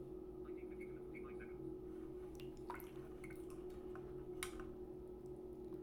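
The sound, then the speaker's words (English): Water drips off a watch just lifted out of water with its speaker facing upwards, a few scattered, irregular drops falling over a steady low hum, quiet overall with no talking. “Technically, that should make water inside it, inside the case, because I've lifted the water out, the watch out with the speaker facing upwards.”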